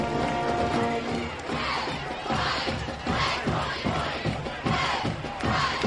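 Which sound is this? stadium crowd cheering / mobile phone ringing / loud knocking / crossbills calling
stadium crowd cheering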